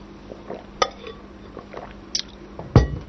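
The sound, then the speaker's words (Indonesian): During a pause in an Islamic religious lecture, someone drinks from a glass: soft liquid and swallowing sounds, a few light clinks of glass, then a louder thud as the glass is set down. No one speaks. “Kami izin minum dulu jemaah.”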